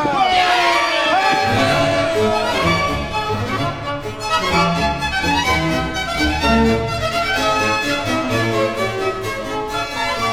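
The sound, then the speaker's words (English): A large crowd of sailors cheers and shouts in a loud, continuous roar of overlapping men's voices, rising and falling slightly but never pausing for about ten seconds. “Now, men, raise a cheer and stretch out like guns!”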